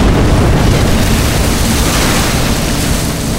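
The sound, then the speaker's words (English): A 94mm warhead explodes against a boat on cistern water, taking out three boats: a loud, continuous, dense rumbling blast that stays steady throughout without fading, overwhelming, with no voices. “The resulting explosion took out three boats and threw a wave of fire over the others.”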